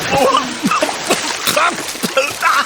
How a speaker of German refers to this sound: Hilfe! Ich werde ins Wasser gezogen! Eine Schlange zieht an meinem Bein! Hilfe!